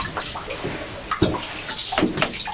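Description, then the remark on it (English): Bathwater sloshes and splashes as an empty metal shampoo bottle is dunked and swished around to imitate a whale in the sea, with a couple of sharper splashes standing out against the steady watery churn. “You're playing with a metal shampoo bottle, aren't you? An empty shampoo bottle. Is it supposed to be an animal in the sea?”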